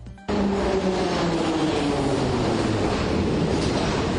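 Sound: subway train running underground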